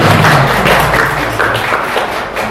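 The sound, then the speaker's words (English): Steady audience applause fills the whole stretch, a dense wash of many hands clapping at an even loudness with no voices over it. “I think you can give a round of applause for that.”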